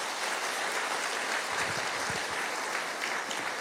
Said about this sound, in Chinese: 相信的拍手，把荣耀归给主。